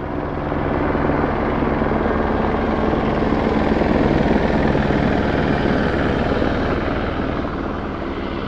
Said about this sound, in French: Dans la nuit de jeudi à vendredi, un hélicoptère de la gendarmerie a survolé assez bas le village de l'eau qu'il a balayé de son gros projecteur.